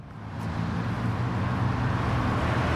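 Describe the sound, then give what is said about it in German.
Steady, dense road traffic at a busy five-lane roundabout, a traffic junction in Berlin, rumbles as a continuous wash of engine noise and tire hiss from many vehicles with no gaps, loud and unbroken throughout. “Wie komme ich denn hier auf die Mittelinsel? Auf dem fünfspurigen Kreisel sprießt ein einsames Glashaus.”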